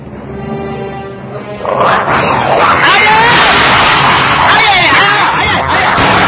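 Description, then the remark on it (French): A dog growls low, then breaks into loud, harsh snarling, a continuous aggressive attack sound lasting several seconds as it bites a person. “Ce chien est toujours gentil. Il m'a mordu.”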